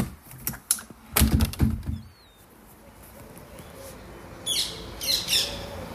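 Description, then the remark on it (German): Harsh squawks from wild bright green parakeets ring out a few times outside an open window in Cologne, Germany, after a stretch of clattering clicks and knocks. Steady outdoor background noise runs underneath. “Das sind eindeutig keine Möwen, sondern Papageien. Also genau genommen knallgrüne Sittiche in freier Wildbahn.”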